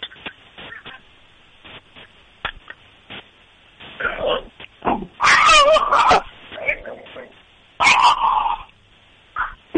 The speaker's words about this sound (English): So let's hear this dog of yours.